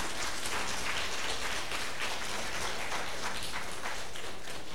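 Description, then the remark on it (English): A crowd claps steadily for several seconds for some Iranian brothers asked to stand up, a dense, even wash of many hands applauding together with no voices heard over it. “Can we give them a big clap?”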